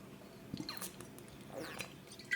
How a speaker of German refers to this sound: Ihr hört richtig. Ich trinke gerade Wasser,